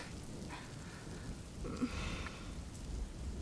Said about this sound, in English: Right down to you and me on this very rooftop. I can't say I expected the rain, though. But it does add a certain something, don't you think?